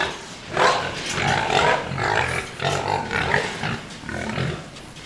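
A pen of about 12 growing pigs eating feed in a 100-by-34-foot pig house, with steady grunting, snuffling and rustling from several animals, a continuous busy murmur with no talking.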